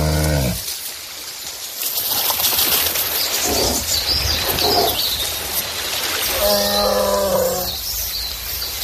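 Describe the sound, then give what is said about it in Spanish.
A flock of about a thousand cranes calls loudly over a dense, noisy wash of overlapping cries, with clear harmonic bugling calls standing out at the start and again near the end. “Madre y mil grullas pegando gritos hacen mucho ruido porque es un animal muy muy vocinglero.”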